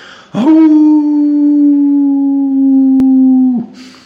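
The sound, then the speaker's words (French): A single long, mournful howl, voiced by a person imitating a wolf: it swoops up, holds one steady pitch for about three seconds, then dips and stops. It is loud and alone. “Quand le loup l'entendit, il perdit courage, leva la tête, ouvra la gueule et se mit à hurler comme un désespéré.”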